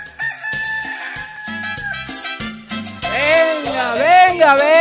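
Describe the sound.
A man's voice mimics a rooster's cock-a-doodle-doo, loud, with long wavering crowing calls that rise and bend in pitch, delivered alone over a few seconds.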